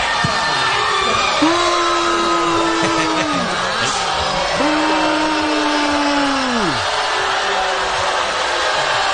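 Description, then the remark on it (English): A large crowd roars loudly and without pause, with long, sustained vocal shouts that swell and then drop in pitch, repeating every few seconds over the dense din, reacting to the announcement of a contestant's elimination after a nationwide vote on a Fox television show. “Listen to the listen to the crowd”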